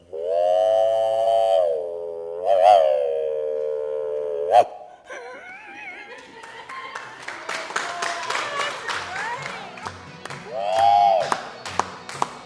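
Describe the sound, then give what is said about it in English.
A man imitates a train whistle in his throat for a train song: a long, wavering, harmonic wail with a rising swoop, then a short final toot. Scattered clapping follows, broken by one more brief hoot. “he makes the sound of a train whistle from his throat”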